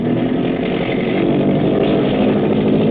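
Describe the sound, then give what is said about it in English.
A boat engine opens up to full throttle at sea at nightfall, in deep water: a loud, steady, throbbing drone with a gritty low rumble that holds strong throughout, with no voices. “The Long Tom up ahead digs her stern down and begins throwing up a bow wash. Hackett is opening up.”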